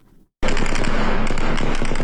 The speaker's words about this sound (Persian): امروز دوشنبه صدای تیراندازی پیام نیروهای دولتی به سوی معترضان در پیرانشهر در ولایت آذربایجان غربی شنیده شد.